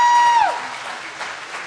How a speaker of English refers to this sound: Let's give Jesus a big hand clap of praise.